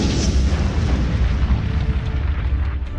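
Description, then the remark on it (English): The metal core of a monolith explodes with earth-shaking force, sending dust and debris flying: a deep, continuous rumble, heavy bass churning loudly for several seconds with crackling debris noise spread over the top and no voices. “carries him all the way down the hollow shaft of the monolith, out the previously sealed hole, and into the sky just as the core explodes with earth-shaking force, sending dust and debris flying out of the open sealated space.”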